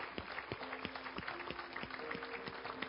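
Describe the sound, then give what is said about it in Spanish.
An audience claps together in applause for God, the King of Kings, a dense wash of hands with a steady rhythmic pulse of sharper beats, over faint sustained low tones. No one speaks. “Podemos darle un aplauso al Rey de Reyes.”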